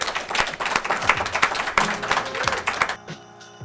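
An audience breaks into loud, dense applause, many hands clapping in a steady crackling wash for about three seconds before it drops away, leaving faint tonal sounds behind.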